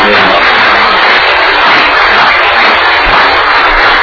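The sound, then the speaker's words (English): A crowd applauds, honouring a staff member retiring after 37 years, in a steady, dense wash of clapping that stays at an even, fairly loud level for about four seconds, with no voices standing out. “Yes, a round of applause.”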